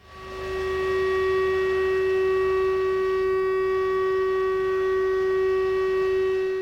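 A steady, unbroken siren tone holds one pitch throughout with bright harmonics, rising in quickly and staying loud and constant with no wailing or pulsing. No one speaks.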